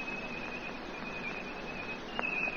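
A person whistles one long, steady high note as a signal, holding unbroken against a hissy background, with a brief sharp click near the end and no talking.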